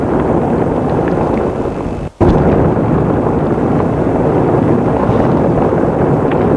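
crackling fireplace fire

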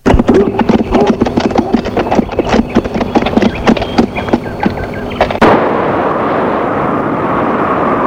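horse galloping

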